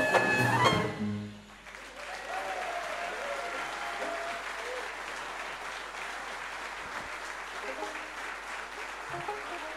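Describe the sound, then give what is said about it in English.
An audience breaks into sustained applause, a dense wash of clapping that follows a brief burst of music and continues steadily at moderate volume until the end. “Special round of applause, please, for the man who put it all together”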